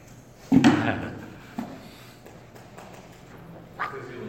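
A chair creaks loudly as someone leans back, followed by a couple of softer creaks a second and a few seconds later, with no voices.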